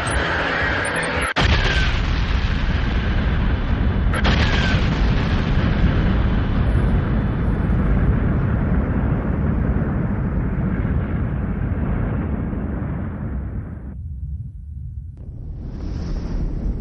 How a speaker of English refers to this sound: When the amount of iron exceeds a certain level in a star, the star can no longer accommodate it, and eventually explodes in what is called a nova, or a supernova.